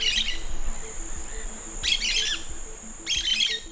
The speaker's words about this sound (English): the small domestic bird that's causing a huge headache for Spanish authorities.